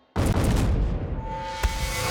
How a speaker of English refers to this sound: That's when they heard the muffled explosion.